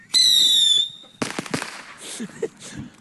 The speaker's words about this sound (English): Okay, why are you even trying to light fireworks with it?